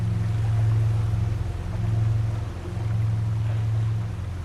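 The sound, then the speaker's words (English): A boat engine drones steadily in a low, throbbing hum as the boat sails along a river past a thicket of reeds, its loudness swelling and easing gently as it chugs along, with faint water wash beneath and no voices. “The boat sails past a thicket of reeds.”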